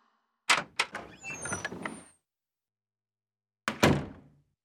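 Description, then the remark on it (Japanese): A door opens slowly as someone enters a room: a few wooden clunks, then a drawn-out creaking squeak, a brief silence, and one last dull thump. No voices. “ゆっくりとドアが開き、誰かが部屋に入ってくる。”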